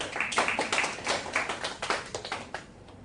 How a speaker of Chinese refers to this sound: 给这个朋友掌声鼓励一下。